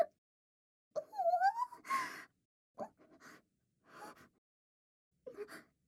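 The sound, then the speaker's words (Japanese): A person attempts a yawn: a long voiced, gasping inhale that rises and breaks off, followed by several short breathy huffs and catches, fairly quiet. “もうあくびします。”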